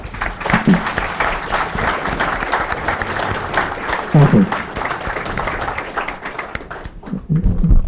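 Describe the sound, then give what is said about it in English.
Steady applause from an audience welcoming General Mike Hayden to open a session, a dense wash of many hands clapping at once that fades toward the end, with a few brief bursts of voices or cheers mixed in. “So would you please, with your applause, welcome General Mike Hayden.”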